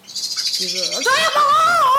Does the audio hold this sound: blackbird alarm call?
yes